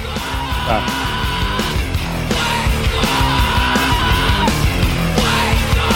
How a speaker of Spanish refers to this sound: ¿Este chico que está cantando en los otros discos es igual? Sí, siempre hacen esto. Siempre en grita. Todos sus discos, en toda su arte.